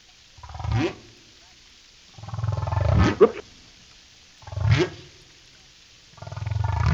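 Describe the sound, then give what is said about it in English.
Whale song from an underwater hydrophone: four deep, groaning calls that each sweep upward in pitch, separated by short silent gaps, with a rough, roaring texture and no talking. “We got a Bone Song, which can play in the background while we talk the rest of the way here.”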